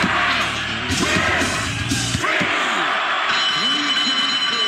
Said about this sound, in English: Damn bell.